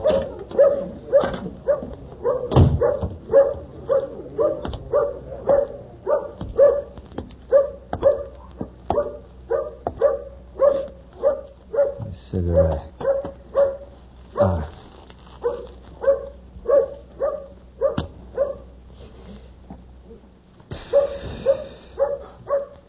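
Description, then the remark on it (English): A dog barks over and over in a steady, rapid rhythm, with high yipping and whimpering notes mixed in, fairly loud for about twenty seconds. “Hey, dog, you got a friend for me?”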